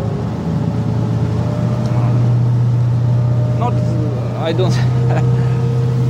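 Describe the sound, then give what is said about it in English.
A coastal patrol boat engine drones steadily at sea as the boat changes course away from a Russian fleet, a loud, continuous low hum with a constant pitch, while voices briefly break in near the end. “Back on the coastal patrol boat, we change course safely away from the Russian fleet.”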